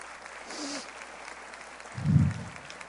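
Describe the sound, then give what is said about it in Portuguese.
An audience claps steadily for the students in a dense, even wash of applause, with a brief low thump rising out of it near the end. “E é para o futuro, para os nossos estudantes, a quem peço uma salva de palmas.”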